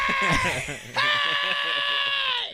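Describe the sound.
A voice imitates a woman screaming out of a window, letting out a loud, sustained, high-pitched wavering cry that breaks briefly and then holds as one long, strained shout, heard alone.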